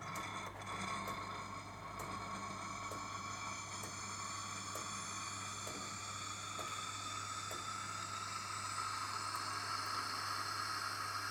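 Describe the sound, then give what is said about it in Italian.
An espresso machine, its steam button switched on to froth milk for a cappuccino, heats up with a steady mechanical hum and hiss, broken by faint periodic clicks roughly every half second that signal the steamer is ready, with no voices. “Versata la nostra quantità di latte, ovviamente dopo aver acceso la macchinetta, dobbiamo attivare il tasto del vapore e prestiamo molta molta attenzione ai rumori che si sentiranno dalla macchinetta.”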